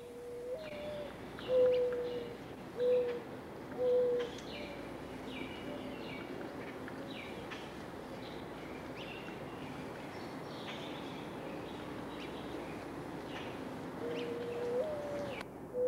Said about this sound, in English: Mourning doves can be heard calling in every month of the year.